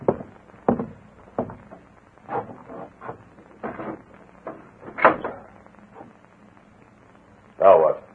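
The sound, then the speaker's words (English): A window is pushed open with a scraping, squeaky slide near the end, after several knocks and thumps of movement, with muffled voices in the background. “Go over there and open that window.”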